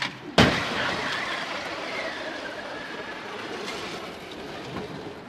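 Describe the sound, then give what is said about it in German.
In a crash test, an orange car pulled by a cable to 80 km/h slams head-on into a stationary blue car of the same type in a sudden, loud crash near the start, followed by several seconds of steady rushing, grinding noise. No one speaks. “Wir werden jetzt ein Fahrzeug gleichen Typs wie der blaue da, aber mit oranger Farbe, auf 80 km pro Stunde beschleunigen und frontal in den blauen hineinschießen.”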